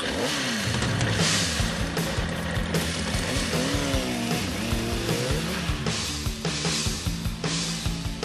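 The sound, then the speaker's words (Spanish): A motorcycle engine revs loudly at Plaza de Felipe II in Madrid, its pitch climbing and dropping through repeated throttle bursts, running continuously for several seconds with no one speaking, as a rider on a charity tour of Spanish cities arrives to park. “Allí, a partir de mediodía, de las 12, va a aparcar su moto”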